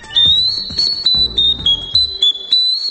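clay ocarina being played

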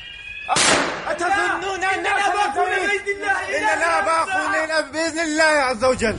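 gunfire

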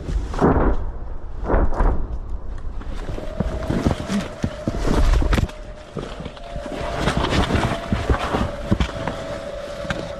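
distant artillery shell explosions

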